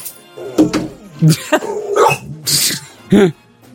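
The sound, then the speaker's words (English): A dog makes a series of short, rough huffing and snorting noises, several irregular bursts of varying loudness over a few seconds, with no talking. “Hi, dog. Hello, dog.”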